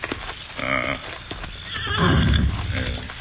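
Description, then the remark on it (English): A horse whinnies loudly as it is reined to a halt near a shack, a rising then wavering neigh, with snorting and a few hoof clops around it over a low rumbling background. “Leave the horses here.”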